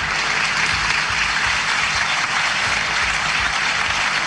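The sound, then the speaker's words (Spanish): Parliamentarians of the Constitutional Assembly rise to their feet in an ovation for the words of Nicolás Maduro Jr., a dense, sustained wash of clapping that fills the space evenly from start to finish with no voices breaking through. “Con una ovación, los parlamentarios de la Asamblea Constitucional se ponen de pie, además, para aplaudir las palabras de Nicolás Maduro Jr.”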